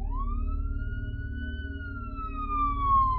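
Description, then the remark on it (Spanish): A police patrol car siren wails in one long rising-and-falling tone over a deep engine rumble, growing a bit louder near the end as the car passes by. “Pero la patrulla que pasó haciendo sonar su sirena nunca se percató de los gritos de auxilio.”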